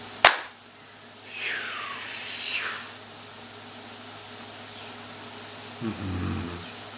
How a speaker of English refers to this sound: if you'd like to join us in the formal closing, you can put your hands about a foot apart in front of you. We're going to count to three. After the count of three, we're going to clap and seal this work. Join us if you wish. One, two, three.